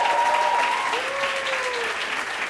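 An audience claps steadily for the full stretch at a live show, a dense, even wash of many hands, with a faint tonal whoop or whistle sliding over it midway.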